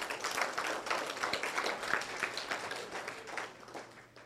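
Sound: audience applauding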